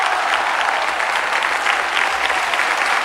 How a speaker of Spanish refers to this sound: Michael aplaude emocionado. Anthony sale por el telón y saluda. Todos se ponen en pie y algunas personas le arrojan flores.